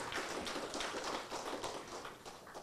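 Steady applause from a crowd thanking a speaker for her testimony at a Christian gathering, a dense wash of many overlapping hand claps at an even level throughout, with no one speaking.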